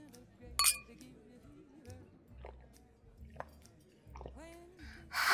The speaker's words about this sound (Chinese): 难得回来一次，这次一定要喝个痛快。干杯喽，弟弟。